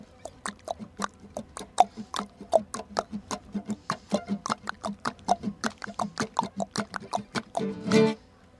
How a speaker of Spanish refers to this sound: A ver cómo suenan los pies, a ver cómo suenan los pies. Esos pies, esos pies, cómo suenan esos pies. Trotan los caballos.